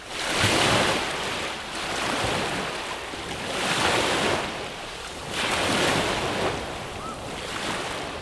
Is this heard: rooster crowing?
no